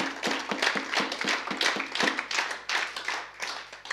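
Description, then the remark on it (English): An audience claps steadily for several seconds, a dense patter of sharp, crisp hand claps at an even, moderate loudness, with no voices over it. “It's worth clapping, yeah.”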